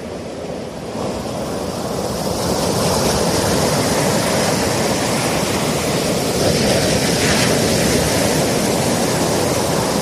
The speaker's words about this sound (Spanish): Lo identificas, ¿verdad que sí? Es el sonido del mar, de las olas rompiendo contra el agua y la arena.